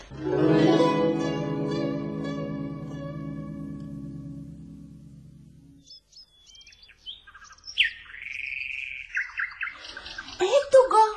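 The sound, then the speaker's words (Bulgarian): A nightingale begins singing: bright, varied whistles and quick chirping phrases arrive in short bursts after a steady, buzzing drone of croaking frogs fades out. “Това са жаби, но скоро ще чуем и Славия.”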